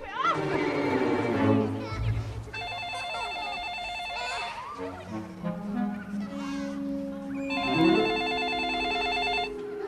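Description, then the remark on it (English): A telephone rings twice, each ring a steady electronic burst of about two seconds with a pause between, before a snowplow man answers it. Honking, squawking sounds and other busy noises fill the background. “Snowplow Man answers the phone.”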